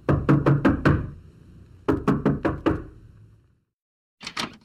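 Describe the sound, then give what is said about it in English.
Knocking on the wooden door of a big house: a quick burst of five sharp raps, a pause, another five, then two fainter knocks after a short silence. The knocks are resonant, with no voices. “Eliza went to the house and knocked on the door.”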